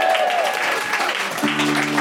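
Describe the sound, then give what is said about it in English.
A steady burst of applause from a group giving themselves a round of applause at the end of a quiz round, dense clapping filling the whole clip, with a low held musical tone entering near the end. “Oh, well, give yourselves a round of applause.”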